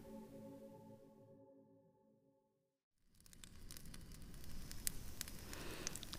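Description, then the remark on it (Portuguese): A sustained musical tone fades to a brief silence, then a campfire crackles steadily, with sharp pops and snaps over a soft rushing hiss. “Um grupo de senhores de meia-idade, uma fogueira e um violão?”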